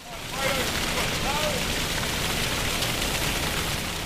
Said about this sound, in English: As the water gets pumped out of an underwater garage and into drains on the road above, it signifies a new phase of Napier's recovery.